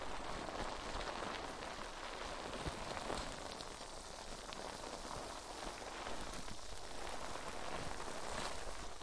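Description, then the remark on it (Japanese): Dense, steady fizzing of foam cleansing bubbles with countless tiny crackles and pops running throughout, a soft hiss much like light rain, with no talking. “よし、泡洗浄はこのぐらいかな。”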